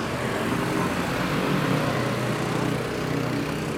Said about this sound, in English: I just crossed the street. There's 10 motorcycles coming right at us.